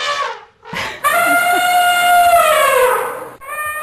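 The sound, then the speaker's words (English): A bull elephant named Natakota, a permanent resident that wanders a courtyard where guests stay, calls: two short rising blasts, then a loud, sustained brassy trumpet lasting a couple of seconds with a rich, steady harmonic tone, fading out before another brief call begins. “So this particular place, there's a new permanent guest, and it's an elephant.”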